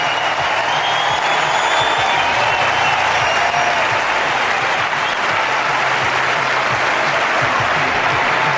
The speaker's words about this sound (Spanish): Escuchamos la ovación. El público de Barcelona, Rafa. ¡Gracias, Rafa!